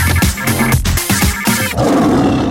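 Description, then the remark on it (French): A loud, brief jingle built around a tiger's roar: a burst of growling, roaring tones with musical stabs, ending in a rough, sustained rumble. No one speaks. “On n'arrête pas de mettre la tête de tigre.”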